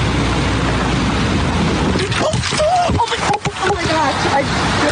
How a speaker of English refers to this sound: I just got hit by a car, but I'm okay